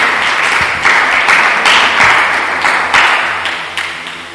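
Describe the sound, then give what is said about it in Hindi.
Loud, sustained applause from an audience at a Christian service, clapping in the name of Jesus Christ for his glory, dense clapping filling the whole stretch with a few stronger surges, gradually fading slightly toward the end, with no voices over it. “Hallelujah, यीशु मसीह के नाम की जरा जोरदार तालियां दे यीशु के जलाल के लिए।”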